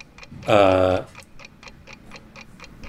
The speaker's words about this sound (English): The clock is ticking.